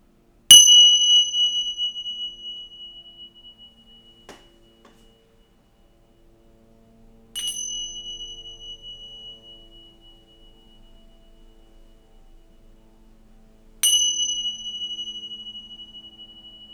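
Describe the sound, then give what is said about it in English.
Three meditation bell strikes, evenly spaced several seconds apart, each ringing with a clear bright tone that slowly fades and reverberates into quiet before the next. “Allow the reverberations of the bells to run through the felt sense of your body in this experience.”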